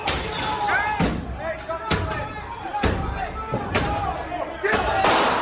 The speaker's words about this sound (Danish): Det er ikke nytårskrudt, vi hører her. Det er en lyd, vi aldrig har hørt før. Vilde amerikanske demonstranter i skudveksling med sikkerhedsfolk i kongressen natten til torsdag.